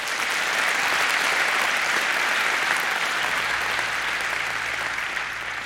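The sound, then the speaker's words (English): An audience claps for the event's sponsors for about six seconds, a dense, even wash of many hands that stays loud throughout and tapers only slightly at the end, with no voices over it. “So give them a round of applause as well.”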